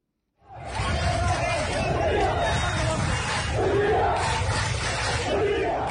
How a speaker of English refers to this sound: Amateur video posted on Twitter showed large crowds of demonstrators in the streets of Port Sudan Thursday chanting slogans against President Bashir and his government.